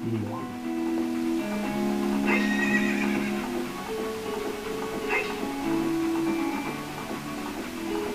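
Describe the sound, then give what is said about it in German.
A horse whinnies in long, wavering cries while hooves clip-clop steadily, the sounds fairly loud with no talking. “Hey Junge, du hast aber ein tolles Pferd.”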